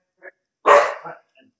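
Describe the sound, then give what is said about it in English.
A dog named Salt, an all-white adopted dog, barks to be let in: a loud, sharp bark that trails into a shorter, softer follow-up bark, with a couple of faint brief sounds before and after. “But yeah, let the doggy in.”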